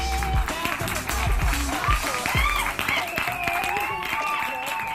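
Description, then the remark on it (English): A crowd claps steadily while shrill whistles rise and waver above the applause, loud and continuous from start to finish, with a few deep thumps underneath. “A few minutes later, Grandpa brought the song to a climactic end, and the crowd whistled and clapped.”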